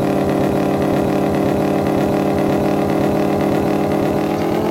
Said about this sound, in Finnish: No niin, tää moottori on vaan ihan paskaa. Se hajos.